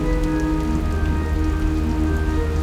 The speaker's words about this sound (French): De gigantesques lames traversent l'atoll d'un rivage à l'autre. Le lagon central se transforme en une marmite bouillonnante. Il n'y a plus de ciel, plus de mer, plus de terre. Rien que de l'eau et du vent.